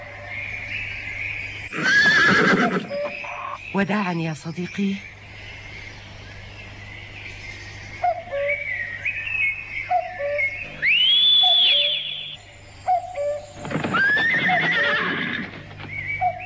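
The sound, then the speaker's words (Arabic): A horse whinnies loudly several times, with shrill rising neighs, while hooves clip-clop in a steady rhythm and a voice speaks briefly between the calls. “سأفتقدك أيها الحصان.”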